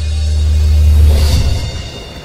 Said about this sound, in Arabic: إنها الأمواج، يبدو أن عاصفة تهب.